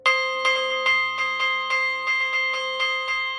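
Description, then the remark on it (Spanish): A church bell rung for daily mass is struck rapidly and steadily, its clapper taken and beaten against the bell by hand, about a dozen bright, ringing hits in quick succession, each tone overlapping the last. It sounds fairly loud, with no talking. “Cogemos el badajo y percutimos la campana con la mano.”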